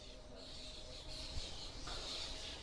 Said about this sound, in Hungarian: Ó, hát nagy madár élet van itt a platánfákon.